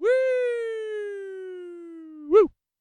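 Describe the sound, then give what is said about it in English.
A single person's voice imitates a siren: one long, steady wail that slowly slides lower for about two seconds, then ends with a quick, louder upward whoop. No other sounds. “I don't know why I'm making a siren noise, but it just felt like the right thing to do.”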